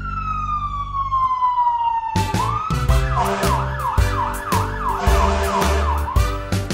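A fire truck siren winds down in a long falling wail, then switches to a rapid warbling yelp over a deep rumbling engine, loud.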